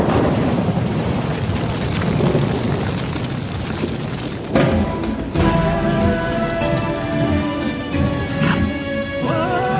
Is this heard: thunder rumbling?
yes